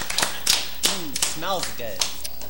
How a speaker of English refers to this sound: Let's get some claps for that.